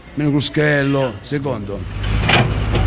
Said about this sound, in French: Dehors, les tracteurs s'activent.